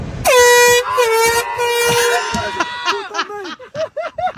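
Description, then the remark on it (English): A loud, sustained air horn from a semi truck blares for about two seconds with a rich, brassy tone, then gives way to a string of short, rapid chirping bursts. “There's the truck.”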